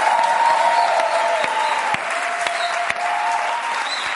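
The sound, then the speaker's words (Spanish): Sustained audience applause at a stand-up comedy show, a dense steady wash of many hands clapping at an even loudness throughout, with no talking over it. “Un aplauso”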